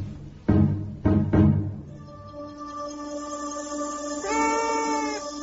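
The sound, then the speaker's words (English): Three quick thuds, then a cat lets out a long, drawn-out meow that swells and rises in pitch toward the end. Moderately loud, with no one talking. “Forget it, fatty cat. You don't get supper for another hour.”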